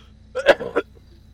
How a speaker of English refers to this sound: I am so sorry. I've been coughing like that all morning. I don't know why. It just happens so randomly.